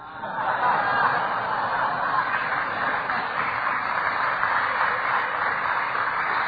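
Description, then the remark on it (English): An audience claps in a steady, unenthusiastic patter that holds at an even level for several seconds, with some scattered murmuring or faint chuckles mixed in. “That's pretty weak applause for that.”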